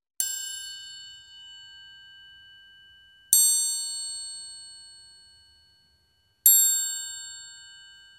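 A bell rings out three times at slow, even intervals, each bright metallic strike lingering and fading away before the next, with no voices present.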